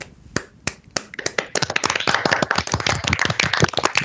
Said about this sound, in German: vielleicht alle nochmal einen Applaus